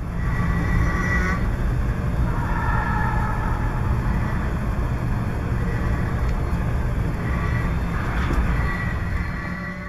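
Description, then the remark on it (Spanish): A steady, heavy metallic rumble from an idling metro train stopped at a platform, recorded by metro engineers exploring the train, fills the space, with low droning hum and faint higher whines drifting in and out, no voices present. “está roncando el tren, que es ese sonido que escuchamos muy metálico”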